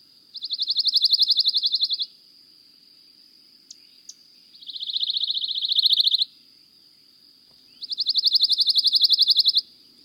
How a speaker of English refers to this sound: That was the dry trill of a pine warbler.